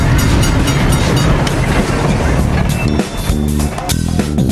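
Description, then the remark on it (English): A train rolls past at the Illinois Railway Museum in Union, Illinois, a loud, steady rumble of heavy wheels with rhythmic clacking over the rails and a brief dip in the noise before it surges again. “And I'm hanging out at the Illinois Railway Museum in Union, Illinois.”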